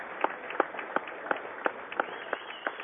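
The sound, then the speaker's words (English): Steady rhythmic clapping, roughly three claps a second, rings over a continuous crowd murmur in a gym as fans rise to applaud a ceremonial jump ball at a Totes shootout versus cancer basketball game between Nokomis and Staunton, moderately loud with no clear talking. “The fans will rise, and pardon me as well, while I stand and applaud.”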